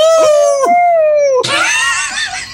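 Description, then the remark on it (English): A human voice lets out a long, sustained howl, holding a steady pitch before breaking into a louder, raspier cry that trails off. No other sounds. “threw his head back and howled as he came.”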